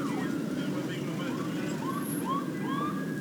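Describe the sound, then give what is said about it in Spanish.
The sirens of three ambulances wail in repeated rising and falling sweeps as they approach and arrive, over a steady, dense background din of traffic and murmuring voices. “Tres ambulancias. Estamos viendo cómo vienen llegando acá.”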